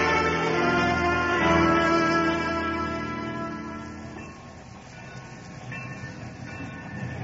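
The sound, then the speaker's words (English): A train rumbles along with a steady, dense mechanical roar and some tonal hum, easing off and settling lower as it pulls into the station at Chandrapur. No one speaks. “There, the train reaches Chandrapur now.”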